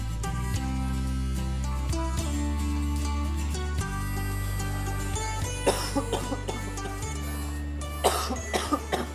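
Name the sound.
coughing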